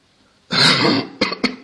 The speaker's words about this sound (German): Das tut mir, schrecklich leid, wenn ich ab und zu mal husten muss.